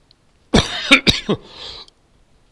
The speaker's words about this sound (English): Oh, excuse me. Yeah, talk about COVID and start coughing.